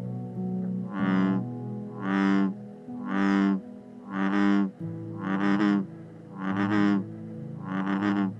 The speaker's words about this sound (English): The bellowing voice of a bullfrog, which is very loud in the summertime when calling for mates, is why they got the name bullfrog, kind of like a bullhorn, which amplifies a sound.